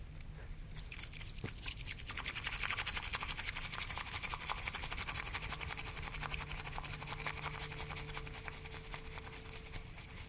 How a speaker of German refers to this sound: Aus der lackierten Bambusdose nimmt die Teemeisterin ganz fein pulverisierten Tee und schlägt ihn mit dem Teebesen im heissen Wasser auf, sodass es richtig viel Schaum gibt.